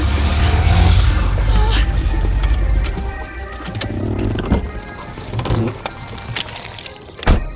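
car engine revving

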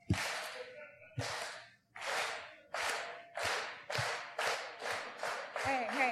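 audience clapping together

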